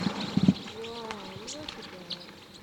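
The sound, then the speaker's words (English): Scattered short, high chip notes from a big flock of crossbills foraging in a Douglas fir, calling irregularly and fairly faintly over a low, steady background murmur and a few soft lower tones. “There's a whole big flock of crossbills in a Douglas fir right here foraging on combs.”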